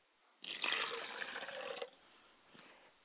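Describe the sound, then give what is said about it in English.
Water pours steadily from a glass for about a second and a half, a splashing stream that stops abruptly, followed by a brief faint trickle; the water is poured as a libation for the spirits of deceased family. “I pour a glass of water for my father's side of the spirit, and I say, Ashe, libation. I pour water to my mother's side of the family, and I say, Ashe, libation.”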